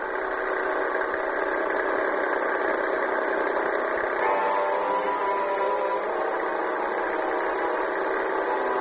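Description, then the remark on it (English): An old Marmon car engine, souped up, runs with a steady, buzzing drone, then shifts pitch partway through as it picks up speed and pulls away. No voices are heard. “I didn't know anything about guns, but one thing I knew was how to handle my Marmon.”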